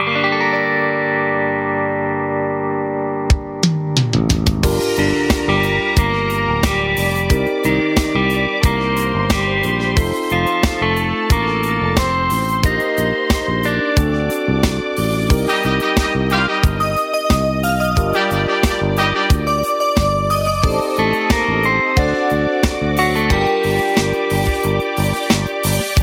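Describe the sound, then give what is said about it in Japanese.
A duet sung by a company president and an employee at a fan event begins after a brief quiet intro, with dense, steady band music drenched in effects, distortion and reverb, playing loudly and continuously with a driving beat. “社員ですけれども、この二人が歌った曲っていうのをちょっとここで聞いていただこうかなと思います。”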